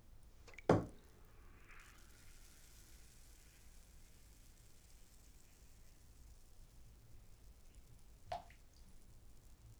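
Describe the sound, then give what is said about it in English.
A bath bomb plops into a bathtub full of water with one sharp splash, then a quiet stretch with low background hiss and a single faint drip near the end. “So, I have a bathtub full of water. And this is what happens when you put a bath bomb into water.”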